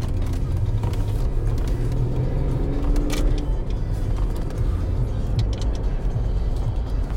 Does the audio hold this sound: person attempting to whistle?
no